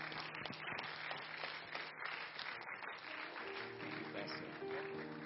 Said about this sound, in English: Can we do it one more time? Let's clap our hands to the Lord Jesus.